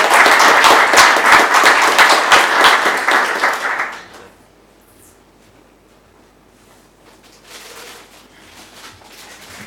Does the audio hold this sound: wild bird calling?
no